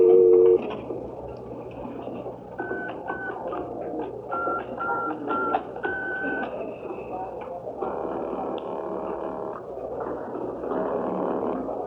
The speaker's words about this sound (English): I crossed to the phone booth, and following instructions, I picked it up to listen for the dial tone before I dropped the dime in.